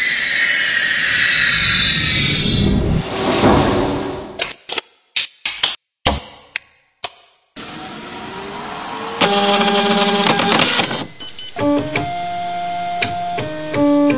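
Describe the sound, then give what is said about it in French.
A heavy old printer is thrown onto a pile of old printers, hard drives and scanners, with a loud burst of noise followed by scattered clattering and rattling knocks, then faint ringing, squeaky tones as debris settles. No one speaks. “Oh, ça m'a l'air lourd en tout cas. Allez, attends, on le balance.”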